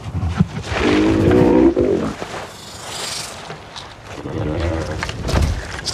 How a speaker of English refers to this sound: So the groan of the male actually became, with some work and you know, adjustments and stuff, became the basis for Drogon's purr with her.